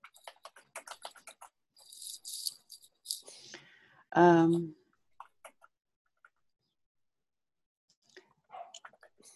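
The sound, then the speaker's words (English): Soft, irregular clicking of keys on a computer keyboard as someone types in section two of a document, with a brief loud voiced sound in the middle and a few scattered taps afterward. “are you typing in section two, or will you do this later? I'm typing, but let's okay.”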